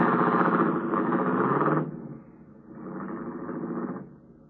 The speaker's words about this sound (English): I watched his car turn off onto a side road and fade into the night.